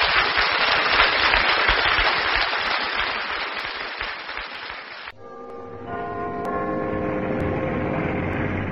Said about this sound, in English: So we'll sign off and let our studio audience give the chaps in Antarctica a big round of applause.